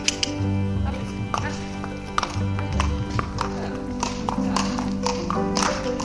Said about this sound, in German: Ein ruhiger Tag in der Nähe von Köln. Einige Pferde drehen auf dem großen Innenhof ihre Runde oder werden zu einem Ritt hinausgeführt.